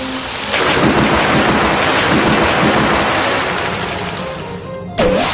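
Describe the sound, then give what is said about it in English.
A stormy sound effect for a "storm rush" attack move in a monster-battle video game: a loud, steady wash of rain and rumbling thunder fills several seconds, briefly dropping away before a fresh burst near the end. No one speaks. “Foe Bingen used storm rush.”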